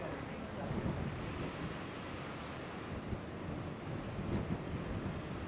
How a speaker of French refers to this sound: Une rafale de vent, chaud, amène jusqu'à vous le parfum de l'encens.